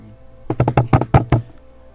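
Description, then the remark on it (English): A quick improvised drum roll tapped out on a hard surface: about seven fairly loud, sharp knocks in a rapid, slightly uneven burst, with no talking. “Drum roll, please.”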